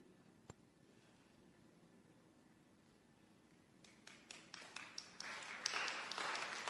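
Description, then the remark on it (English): After a few quiet seconds with a single sharp tap, the Movimiento Poder crowd at a meeting's public comment session starts clapping, scattered at first, then swelling into dense, steady applause that grows louder to the end. “That is the Movimiento Poder crowd clapping.”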